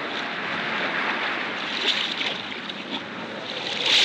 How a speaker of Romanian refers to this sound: Cânta inima în mine de setea necunoscutului, când s-a ridicat ancora și pânzele s-au umflat în vânt prielnic. Am navigat cu pânzele.